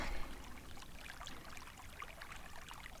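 Water trickles and bubbles steadily in a hot spring, a soft continuous babble with small scattered splashes. It stays quiet, and no one speaks.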